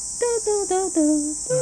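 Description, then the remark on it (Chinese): Night insects keep up a steady, high-pitched trilling drone throughout, while a series of five short, tonal, slightly descending calls repeats over it at a fairly regular pace. “现在晚上能听到不少虫子的声音。”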